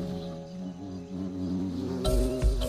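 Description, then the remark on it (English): A bumblebee buzzes steadily in flight among tomato flowers in a farm field while buzz pollinating, a low droning hum that holds throughout, with a brief rustling burst near the end. “In a farm field, bumblebees are finishing the exhausting job of buzz pollinating.”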